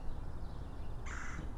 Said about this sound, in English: All right, so I'm approaching the creek here. Hear that? Brat. That's one of our little woodpeckers, a flicker.